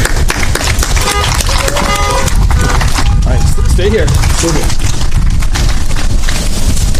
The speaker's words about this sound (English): And so we want to give you a round of applause here and a honks.